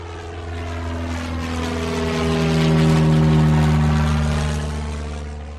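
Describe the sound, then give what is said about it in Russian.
A Nieuport propeller airplane spiraling down into clouds drones steadily with a deep, buzzing engine tone, its pitch wavering as the roar swells louder through the middle and then eases off, with no voices. “Все 20 секунд, пока аэроплан ввинчивался по спирали в слепой туман облаков”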